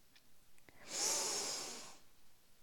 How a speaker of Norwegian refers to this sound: Skal vi gjøre det en gang til? Pust godt inn gjennom nesa.